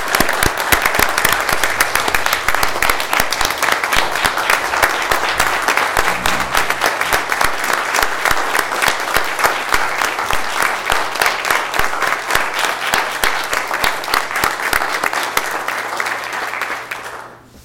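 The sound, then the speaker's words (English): Sustained applause from a room full of people thanking those honored for their work for the Elk Ridge schools, dense and steady clapping at a strong level for about sixteen seconds before tapering off at the end. “Again, thank each one of you, and I know a round of applause is nowhere near enough of what we owe you for what you've done for our schools, but let's give everybody another round of applause if we will.”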